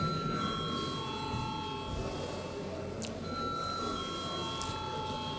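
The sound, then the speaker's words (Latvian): A continuous electric bell rings steadily for several seconds in the Saeima, the Latvian parliament, calling a vote on granting urgency to a bill; a sustained metallic tone over a busy, noisy background with faint murmuring. “Paldies, lūdzu zvanu.”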